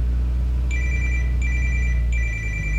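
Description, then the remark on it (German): A phone rings inside a taxi with three evenly spaced electronic chirping tones, clear, over a steady low engine-like rumble. No one speaks. “Ich muss mal telefonieren.”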